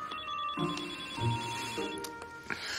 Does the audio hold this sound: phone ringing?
yes